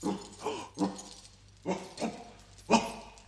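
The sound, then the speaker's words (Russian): A dog, just woken and climbing out of its kennel, barks in a series of short yelps with whiny, whimpering tones mixed in, about five bursts spread irregularly over a few seconds, with no talking. “Проклятый пес проснулся и вылезает из домика.”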